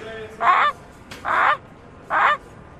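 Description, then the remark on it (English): A person imitates a Canada goose, giving three loud, nasal honks with short pauses between them, with no other talking. “Canada goose.”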